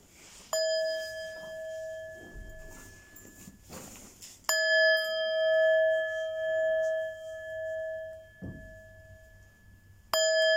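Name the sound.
meditation bell ringing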